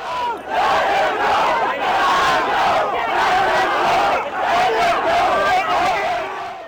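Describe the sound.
A large, agitated crowd yells at a police riot squad in a sustained, loud roar of overlapping angry voices. Rhythmic surges of a repeated chant of "shame, shame, shame" rise and fall throughout. The crowd is upset that a man is being arrested.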